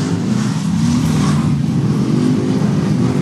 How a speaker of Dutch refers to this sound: Rollende motoren, dames en heren.